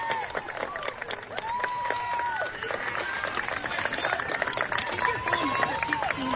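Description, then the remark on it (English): A large crowd at a ball game cheers and shouts loudly and continuously after a batter makes great contact with a pitch, many voices rising and overlapping in a dense roar that holds steady for several seconds. “And on the next one, makes great contact as you hear the crowd go wild.”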